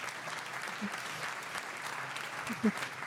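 A crowd claps steadily throughout, a dense, even wash of applause at moderate volume with a few faint voices mixed in and one brief louder vocal burst near the end.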